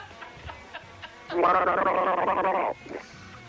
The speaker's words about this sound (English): Can we have a gargle together? Certainly. Let me get another mouth for one moment. This Waikato's lovely.